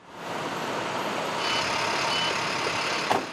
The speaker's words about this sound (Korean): 그리고 금요일 새벽 큰 트럭에 신선한 채소를 가득 싣고는 대도시의 복잡한 도로를 지나 윈스턴 앤 스트론 법률회사 건물에 도착하지요.